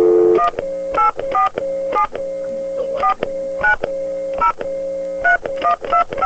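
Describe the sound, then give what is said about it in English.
A rapid series of about a dozen short telephone keypad beeps, each a two-tone chirp, punched in at an uneven pace to dial a phone call, over a steady background hum, clear with no talking. “Yeah, I believe wholeheartedly, having the microphone up this whole while we are making a phone call has sort of legitimately to do it, you know?”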